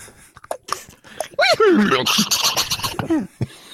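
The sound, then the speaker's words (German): A person imitates a horse's whinny with a loud, shaky, wavering voice that slides downward in pitch, preceded by a few short breathy sounds and ending with a final quivering burst. “Ah, du kannst doch auch so richtig wiehern wie ein Pferd, habe ich neulich in der Hand.”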